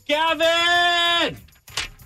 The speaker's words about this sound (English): Oh, I love that entrance. You just opened the door.